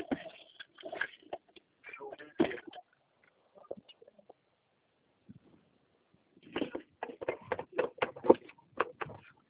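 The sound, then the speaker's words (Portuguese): Someone rummages through a backpack for a pen to note a protocol number during a phone call, with busy rustling and small clattering knocks in two bouts separated by a few seconds of near quiet. “Difícil uma caneta na minha mochila.”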